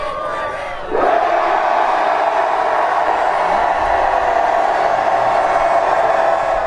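About 100 Quidditch players at the Quidditch World Cup scream "Quidditch" together at full volume on a muddy field, a dense, sustained roar of voices that surges up after a brief lead-in and holds steady without letting up.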